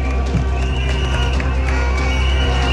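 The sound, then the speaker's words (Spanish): A large crowd applauds steadily and loudly for the whole stretch, a dense, unbroken wash of clapping with scattered sharper claps and a faint murmur of voices underneath, applauding a speech by the CUT (Central Unitaria de Trabajadores y Trabajadoras) union. “Este es el aplauso al discurso de la CUT, la Central Unitaria de Trabajadores y Trabajadoras.”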